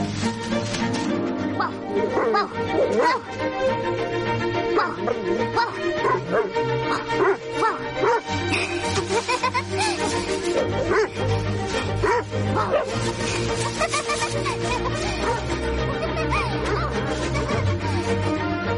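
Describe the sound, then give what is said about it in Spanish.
A dog named Jemima barks and yips excitedly in quick, repeated bursts, fairly loud, with occasional whimpering, as it runs after a woman, over a continuous musical background. “Se aleja corriendo. El perro la sigue.”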